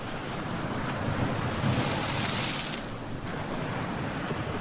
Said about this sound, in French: Ah, vous entendez cette mer déchaînée? Eh oui! Nous prenons le large.